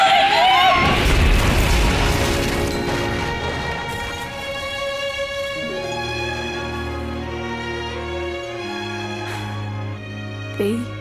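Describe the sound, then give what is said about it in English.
A loud crash of an asbestos roof smashing and shattering into pieces, with a burst of clattering debris that fades over a few seconds into steady, sustained musical tones. “But this roof is made of asbestos. It'll shatter into 1,000 pieces.”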